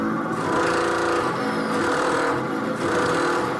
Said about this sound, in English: the radiators here at Wish FM this morning are making an extraordinary noise